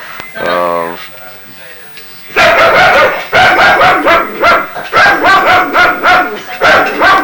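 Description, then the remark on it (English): A dog barks loudly and rapidly in a steady run of sharp, repeated yaps, after a brief whine at the start. “I don't think a dog's passing.”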